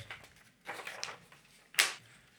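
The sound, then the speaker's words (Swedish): A sheet of paper holding a poetry collection rustles: a soft crinkling stretch of handling, then one sharper, crisp flick or snap of the paper. No one speaks. “jag har fått ett papper av Karo”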